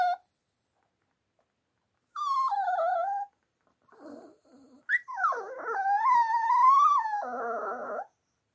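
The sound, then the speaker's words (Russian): A small female pet dog whines and whimpers to be taken for a walk, in several high, wavering bursts. It starts with a short cry, then a longer rising-and-falling whine that breaks into yelps. No one speaks. “А это наша собачка просит тебя поскорее вставать, чтобы ее вывести на прогулку.”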